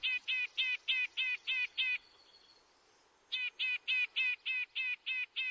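A red-breasted nuthatch gives a rapid, even series of nasal, toy-horn-like calls, pausing for about a second before starting up again. Clear, with no other sounds.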